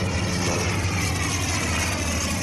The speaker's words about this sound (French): il est dans la cour de son école, c'est la récréation, il fait beau, il lève la tête et il voit passer un avion.